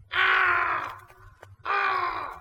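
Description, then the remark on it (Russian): A black raven sitting on a branch caws twice, loud, each call a harsh, drawn-out rasp lasting nearly a second, with a brief quiet gap between them. “Ну, конечно, кроме черного ворона, который сидит на ветке, все видит и все слышит.”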